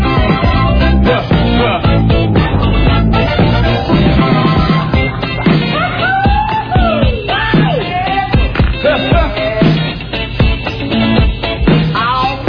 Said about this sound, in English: Right there, there's that scream in the background. Yeah, so that's supposedly somebody got stabbed in the studio during the recording of the song.